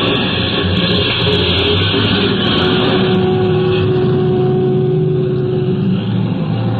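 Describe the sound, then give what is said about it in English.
A steady, loud bus engine drone with a constant low rumble and road noise as the bus swings out onto a highway for the return trip; no one speaks. “that was the picture as we swung out onto the highway for the return trip”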